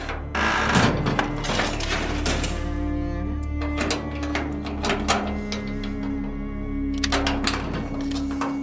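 A door lock turning, heard as a run of sharp metallic clicks and rattles spread across several seconds, over a steady low hum with no talking.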